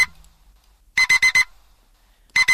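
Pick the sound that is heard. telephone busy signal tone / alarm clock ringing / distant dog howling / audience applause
alarm clock ringing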